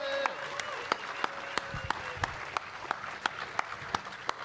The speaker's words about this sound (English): Please give her a huge round of applause, then. Thank you very much.